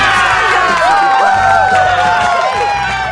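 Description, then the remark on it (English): A large crowd cheers loudly and continuously, many overlapping voices shouting and whooping together in a dense, excited roar that holds steady throughout. “Oh, everybody's so happy. It's just so great. The crowd's happy.”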